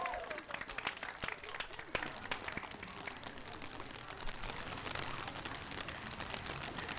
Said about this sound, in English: Everyone give a big round of applause.